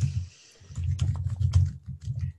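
Quiet, irregular clicking of someone typing on a computer keyboard, with a steady run of keystrokes over a low background rumble and no voices.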